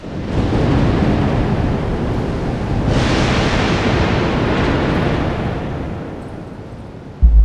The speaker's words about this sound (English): He stands, and thunder strikes in the distance.